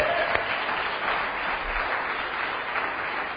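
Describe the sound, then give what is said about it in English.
A crowd claps steadily, a dense, even wash of many hands from start to finish with no pauses and no voices on top. “I can tell you can clap on that.”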